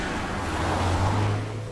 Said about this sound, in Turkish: Şehrin akşam vakti trafiği.